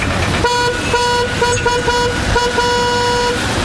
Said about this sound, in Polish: Otwarcie nowej tymczasowej przeprawy było kilka razy przekładane, ale w końcu doszło do skutku. Wczoraj mostem przejechały pierwsze samochody.